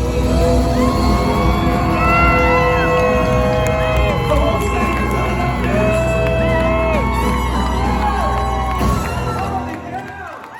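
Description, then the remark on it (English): A loud, dense concert crowd roars and cheers nonstop as the singer ends a song and leaves the stage, with scattered shouts and whoops rising above the din before it eases slightly at the very end. “As he was ending the song, as he was going off stage at the end, he yells out, and I'll play the clip.”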